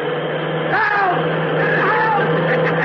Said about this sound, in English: A cross-country bus. Cop, go ahead and yell. Yell your heart out. Try to out-yell that motor.